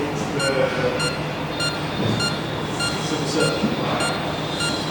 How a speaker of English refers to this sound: If the user ventures within 2 metres of another device, both devices flash blue and make a single beep. Come closer than 1 metre, they flash red and make a continuous beep.